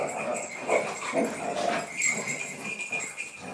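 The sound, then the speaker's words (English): Three dogs, Zeta, Quizzy and Flossie (a dog for the disabled), play and bark over one another in quick, irregular bursts with some whimpering. Quizzy has the highest bark, Zeta the middle one, and Flossie, the smallest, a slightly lower one. A busy, playful clamor with no talking. “They're all playing and barking.”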